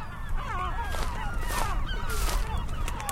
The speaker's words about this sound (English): You're hearing great blackback gulls and herring gulls.